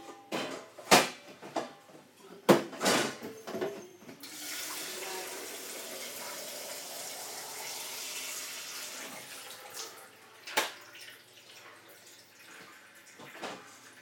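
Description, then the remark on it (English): A few sharp plastic clunks, then a tap runs in a steady rush for about six seconds as a Brita water filter jug is refilled, before it shuts off into quieter handling noises. “Right, whenever I use the water filter, I always fill it back up again because obviously you never know when you're going to want it again, are you?”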